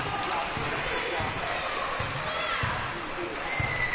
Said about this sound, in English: And the applause comes from the crowd, and the Jackson Jets get away with a win. 72-62, 10-point victory over the Terre Haute Titans tonight at the Vic Cuis Fieldhouse.